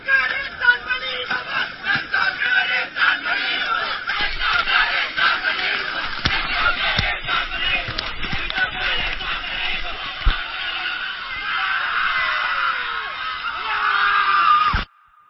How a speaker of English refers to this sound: until finally on day 21 they reach the river's mouth on the Indian Ocean, and everyone sprints over the sand and into the sea while laughing and crying and congratulating each other, like in this audio from 2016.